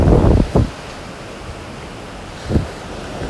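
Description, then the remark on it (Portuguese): Ocean surf washes in as a steady, soft hiss, with a few louder swells as waves break one by one at the edge of a beach. No one is speaking. “O mar está azul e as ondas quebram uma a uma na beira da praia.”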